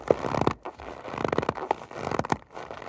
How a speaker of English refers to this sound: Fortunately, there are other ways to make snow sounds. To get a really good crunch, they'll scrunch up a bag of cornstarch.